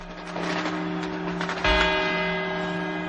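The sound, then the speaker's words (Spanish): A clock tower bell chimes the four quarters that come before the hour strokes, two clear strikes with long, shimmering tones that hang and overlap, ringing loud and resonant with no one speaking. “Estos son los cuatro cuartos.”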